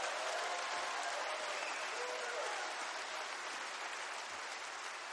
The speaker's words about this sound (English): Everybody give him a hand clap of praise